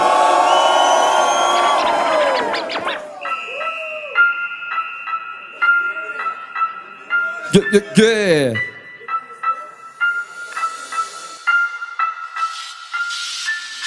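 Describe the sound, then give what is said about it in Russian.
A crowd in Saint Petersburg roars and cheers loudly for a few seconds at a top-16 battle, then the noise gives way to a team's beat opening the first solo round: steady, repeating electronic tones with a brief sweeping swoosh. “Питер, сделайте максимум шума!”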